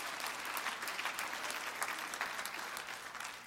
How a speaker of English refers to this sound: And we can clap to this